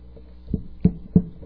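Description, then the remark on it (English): A door opening for the third time, heard as three dull, low clunks spaced evenly a fraction of a second apart, fairly quiet, with no voices. “Left-handed people, doors opening up a third time, are oddballs.”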